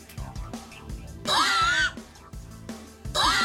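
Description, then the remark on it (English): A woman lets out two loud, high-pitched screams, the first longer and wavering, the second cut short, with quieter murmuring and background noise between them. “she can be heard testing her friend's patient with her incessant screaming”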